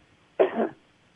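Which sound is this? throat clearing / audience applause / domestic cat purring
throat clearing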